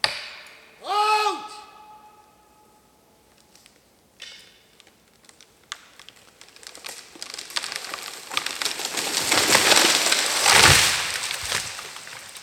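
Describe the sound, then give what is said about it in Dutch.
A felled tree gives way with a building run of crackling and splintering wood, ending in a loud, heavy crash as it hits the ground, falling toward the path. “En om. Daar ligt hij. Richting het pad.”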